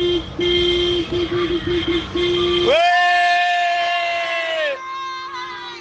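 A loud, dense street crowd in Ventimiglia, Italy, celebrates, dancing and screaming with flags, with rapid horn toots cutting through the din, then a long, sustained horn blast rising over the cheering and shouting.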